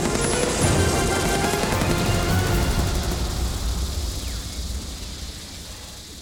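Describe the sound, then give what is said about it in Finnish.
Dense, rapid bursts of automatic assault rifle fire crackle continuously as everyone empties their magazines in a firefight on and below a hill amid red smoke. The bursts overlap into a relentless rattle that slowly fades and thins toward the end; no voices. “Kaikki ampuvat lippaita tyhjäksi. Armoton rätinä ja pauke.”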